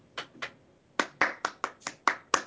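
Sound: round of applause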